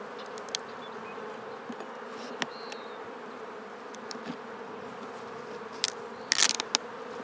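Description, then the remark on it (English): A dense, steady hum of many honeybees buzzing together in a hive as its lid is taken off, moderately loud and continuous, with a few brief clicks and a sharp scraping sound near the end. “Get the lid off. Not too noisy there.”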